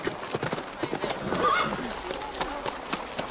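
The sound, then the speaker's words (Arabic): Hooves of a passing caravan clatter in a steady, uneven clip-clop throughout, with a short high horse whinny rising near the middle and murmured voices underneath. “لو لم أسمع صوت القافلة لكنت ذهبت إلى بوابة المدينة.”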